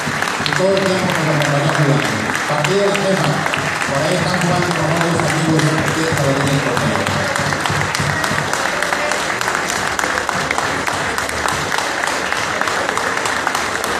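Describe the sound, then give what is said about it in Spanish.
An audience gives a minute of applause in memory of a woman who died the previous week. Steady, dense applause fills the whole stretch, loud and unbroken, with a layer of crowd voices murmuring underneath during the first half before the clapping carries on alone. “Estamos escuchando un minuto más de aplausos para la señora Arminia.”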